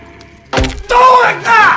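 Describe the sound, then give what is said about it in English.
A sudden dull thud of a toe stubbing against a bin as someone sneaks past a sleeping guard after taking a set of keys from behind his desk, quickly followed by two loud, strained yelps of pain. “He removes a set of keys from behind his desk, pulls a face at him, then stubs his toe on a bin.”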